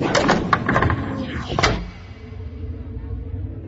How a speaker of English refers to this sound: The door closed.